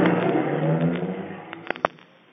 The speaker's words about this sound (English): Oh, come on, car, faster. Faster. Oh, come on, car, faster.